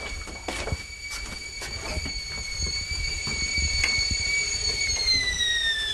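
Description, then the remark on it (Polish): Water boils in a kettle for making tea, a steady rushing hiss with scattered crackles and pops, while a thin high-pitched whistle holds throughout and dips slightly in pitch at the end. “Woda się gotuje, przepraszam.”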